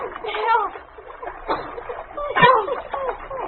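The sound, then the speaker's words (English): Ice gives way and water splashes and sloshes in a few sudden bursts, fairly loud, as a girl and a dog named King plunge into an icy river. Strained voices cry out over the churning water. “The ice on which the girl stood suddenly gave way just as the dog reached her.”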